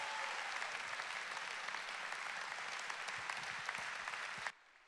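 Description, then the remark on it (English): A church audience applauds steadily to welcome guest speaker Dr. Mark Rutland, a dense wash of many hands clapping at an even loudness for several seconds, then it stops abruptly near the end. “Can you all make welcome while you're clapping our dear friend, Dr.”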